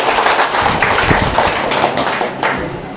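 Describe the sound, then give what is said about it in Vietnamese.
A crowd applauds to greet a man coming up to share his story, a dense, steady patter of many hands clapping together for about three seconds, staying loud throughout and easing off only slightly at the end. No one speaks. “Chúng ta cho một tràng pháo tay gặp gỡ người anh em này.”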